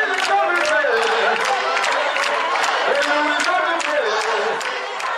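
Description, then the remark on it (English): A large crowd at a Lord's Chosen church gathering in a big arena sings together in a dense, continuous wash of voices, with sharp claps and cheers punctuating it throughout, loud, the energy steady for several seconds; mock troops with papier-mâché swords storm the space singing and clapping. “Choirs come and go from the big arena, and the mock troops of the Lord's Chosen with their papier-mâché swords jokingly storm the space from time to time, singing and clapping.”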